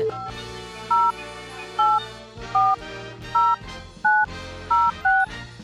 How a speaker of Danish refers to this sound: Så skal lige prøve at se. Jeg ringer lige til ham. Ja, jeg kan ikke huske hans nummer i hovedet.